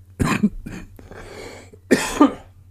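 A short, sheepish round of embarrassed coughing: a couple of quick coughs, a breathy pause, then a final harder cough with a throat-clearing edge.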